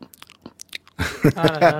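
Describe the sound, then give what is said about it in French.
Crunchy chewing, a rapid series of sharp, brittle bites at first, then a louder stretch where wet mouth noises blend with a voiced, humming tone. “Les croustillants de pop-corn au cinéma, les mastications.”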